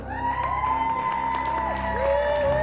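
A large crowd applauds steadily throughout a badminton bronze medal ceremony at the Special Olympics World Games in Abu Dhabi, with cheers and high whistling tones rising above the sustained clapping. The sound is dense and continuous, as if heard from within the audience.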